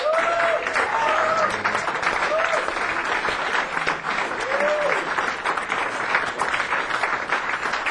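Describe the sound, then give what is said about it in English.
A Hamilton crowd claps steadily and loudly for the full stretch to welcome a performer, the applause dense and sustained, with a few faint whoops and cheers rising above the clapping early on. “So, without further ado, please give a very warm Hamilton welcome”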